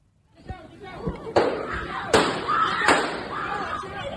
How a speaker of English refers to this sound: The moment of sheer panic as gunshots are fired on a New York City subway carriage and desperate riders are finally able to flee the confined car.